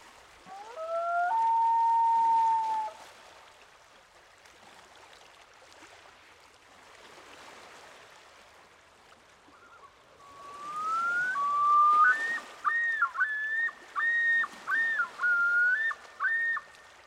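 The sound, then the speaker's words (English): A loon's wail: a long, mournful tone rising and holding steady, followed after a pause by a louder rising call that breaks into a rhythmic series of repeated, undulating notes over faint background hiss. “The other sound that the loon is making is called the wail. It sounds almost like the howl of a wolf.”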